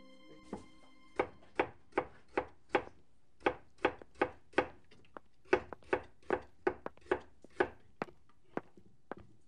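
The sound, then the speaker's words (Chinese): A knife chops vegetables on a cutting board in a steady run of about twenty crisp thuds with short pauses between bursts. No one speaks. “我刚才切菜的时候，不小心把手划伤了，哎呀，疼死我了！”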